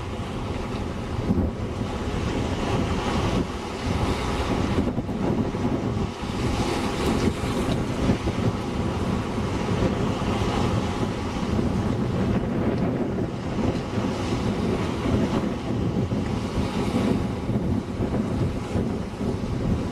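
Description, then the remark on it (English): Continuous loud roar of big ocean waves and surf with rushing water and heavy wind buffeting the microphone, waves surging steadily with no voices throughout. “When these big waves come.”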